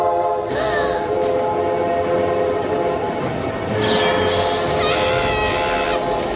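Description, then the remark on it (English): A train pulls in with its horn blaring in long, sustained blasts over a steady rumble of wheels and engine, loud throughout, with a brief squeal of brakes midway. “Maybe the train won't be too big.”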